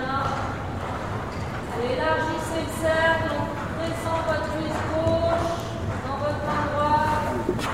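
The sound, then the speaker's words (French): Hooves of several young horses clop steadily on the ground during a group training session, a continuous uneven patter, while people talk over them throughout. “Oui, de temps en temps, on fait des séances comme ça pour les habitués à travailler en groupe. Les jeunes chevaux qui n'ont pas l'habitude.”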